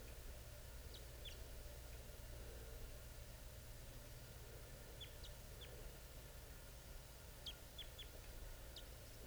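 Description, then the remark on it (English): A wild male bird, coming down from the top of a tree on approach, chitters in three short bursts of quick, high, thin notes, faint over a steady low rumbling hum, with no voices. “He's giving chitter right now.”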